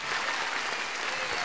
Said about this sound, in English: Everyone in the audience smiles and claps.